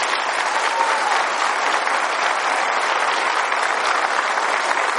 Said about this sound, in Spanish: ¿Habrá alguien aquí que le dé un aplauso a la Virgen de Guadalupe?